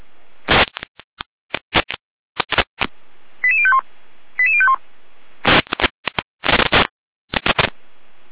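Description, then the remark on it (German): Radio dispatch alert tones of a control centre's test call to Florian Saalfeld-Rudolstadt, group 2: two quick runs of stepped, mostly falling beeps, set among loud crackling bursts of radio static and squelch clicks. No one speaks. “Leitstelle hier mit Probenruf Florian, Saalfeld Rudolstadt, Gruppe 2.”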